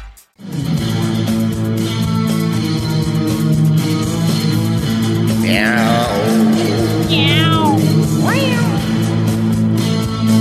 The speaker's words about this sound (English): Meow. Meow. Meow